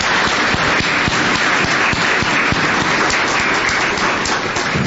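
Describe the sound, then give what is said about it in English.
A crowd applauds the organizers and participants of a Youth Day, many hands clapping in a dense, continuous wash of sound that holds at a fairly loud level throughout, with no voices standing out. “Can we give them a round of applause, please?”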